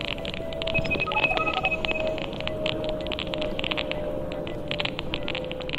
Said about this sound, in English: These crackles and beeps are Wi-Fi networks. They're coming from people's homes and businesses. Frank Swain and Daniel Jones recorded the Wi-Fi signals while walking down a few streets in London.